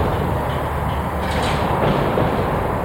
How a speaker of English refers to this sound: Winds howl through a hangar at Wendover Airfield in Utah's Great Salt Lake Desert. The windows are smashed, the walls rusted. Once the hangar was home to the Enola Gay, the B-29 bomber that dropped the first atomic bomb on Japan.